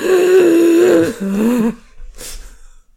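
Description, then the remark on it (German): A voice imitates a man's loud, strained wheezing breathing: a long, drawn-out, raspy voiced exhale, followed after a short pause by a brief, breathy hiss of air being sucked in. “Das war sein Atmen”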